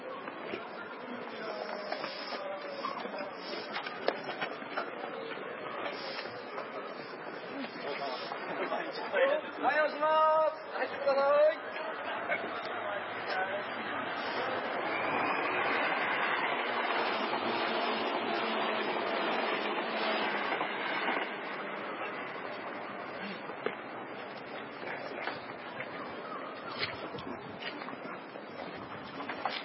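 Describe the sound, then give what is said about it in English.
A crowded train station at morning rush hour: steady babble of many voices and footsteps, with a swelling rumble of a train passing midway and scattered clatter throughout. “This is rush hour.”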